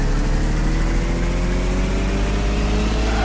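A car engine in a video game hums steadily and fairly loudly, its pitch climbing gradually as it revs up while the up arrow is held. There is no talking.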